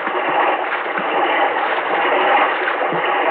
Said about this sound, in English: Tragedy struck in 1,000 places. Swirling water swept down with such force that those caught, except the strongest, were lost in its slimy silt. The water surged over the land, and refugees scrambled to such high ground as they could reach.